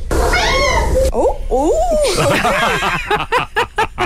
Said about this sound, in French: Ça sentait le petit montage ici. Ben, en fait, c'est Caro qui a dû monter le son du chat parce qu'on l'entendait pas bien.